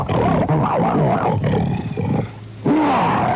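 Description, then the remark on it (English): A deep, loud growling roar like a big cat's, for a surgeon growling as he approaches a patient in surgery, rumbling with wavering tones, easing briefly near the end before surging back strongly. “I mean, everybody stood back in because they could see me growling as I approached the patient.”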